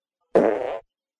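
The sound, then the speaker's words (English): A single loud fart lasting about half a second, with a buzzy, slightly wavering tone and an abrupt start and stop, heard alone against silence. “Animosity fart.”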